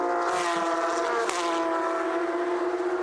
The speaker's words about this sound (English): My, those cars sound good, don't they?